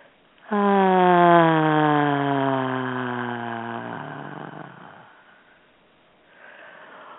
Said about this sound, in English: Breathing all that in, holding it in your pineal gland, and releasing.